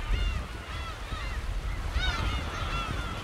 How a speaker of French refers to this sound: Il y a tous ces oiseaux de mer sur des bancs de sable au milieu du canal qui remonte vers la ville.